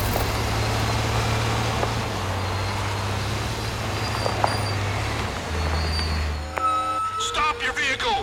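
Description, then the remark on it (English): A heavy truck engine drones steadily, its low rumble shifting pitch a couple of times as it drives, with road noise throughout and a brief tonal, brake-like squeal near the end. “Stop that truck!”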